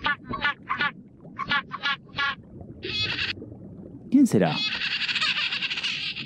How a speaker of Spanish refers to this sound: ¡Es un pingüino! Este que se acerca ahora no es un pez.